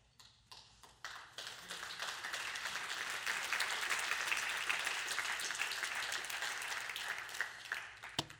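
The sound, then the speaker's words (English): An audience breaks into applause: a few scattered claps swell quickly into dense, steady clapping that holds for several seconds before thinning out at the end. “Meanwhile, you and I have been redeemed by the precious blood of Christ the Lamb, and we can't even muster an applause or an amen.”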